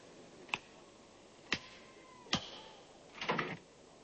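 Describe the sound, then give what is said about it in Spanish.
Three sharp clicks spaced about a second apart, then a brief rattling scrape as a credit card is worked into the slot of a door latch and slips it open, fairly quiet. “saca una tarjeta de crédito, la introduce en la ranura de la puerta y abre el pestillo.”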